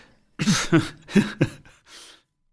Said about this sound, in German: Hast du gerade gelacht oder gehustet? Nein, der Husten hatte nichts damit zu tun. Das war einfach nur Mundtrockenheit, weil ich auf das Bier warte.